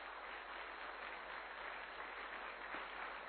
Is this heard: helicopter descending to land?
no